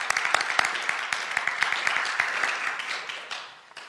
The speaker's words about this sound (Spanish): Un aplauso para usted.